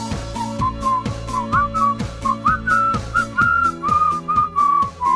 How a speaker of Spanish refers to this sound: Este es re de silbido. Este tema es re de silbido.